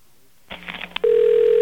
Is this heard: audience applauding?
no